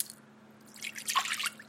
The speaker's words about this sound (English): Victor Blossom poured his son a bowl of cereal.